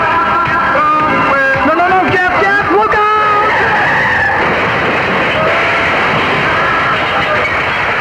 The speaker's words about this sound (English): That was the station manager's car, you fool. Can you hear it?